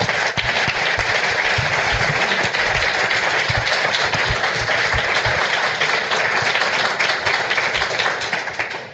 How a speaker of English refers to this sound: So, first of all, I want to give a round of applause for our panelists.